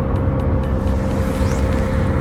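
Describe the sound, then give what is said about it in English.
A steady, loud car engine drones with a dense low rumble and road noise, holding a constant level throughout with no voices. “All right, guys, my car is getting increasingly louder, so hopefully you can still hear me.”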